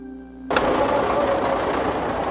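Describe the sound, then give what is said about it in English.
A brief steady hum gives way abruptly to the engines of 11 covered trucks carrying refugees in Bosnia in 1993, a loud, continuous rumbling roar with a rough, noisy texture that holds steady to the end. “The refugees came through in 11 covered trucks.”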